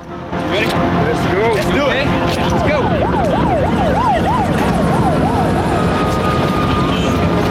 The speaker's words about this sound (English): Outside, the sirens wailing, police cars roll up.